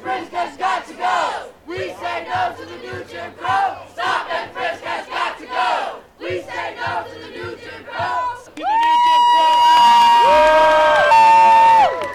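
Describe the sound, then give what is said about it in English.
A protest crowd of at least 300 in New York City, opposing stop and frisk, chants together in loud, rhythmic bursts of shouted voices, pausing briefly between phrases, before the chanting swells into a sustained roar of yelling and whooping. “Crowd here, at least 300.”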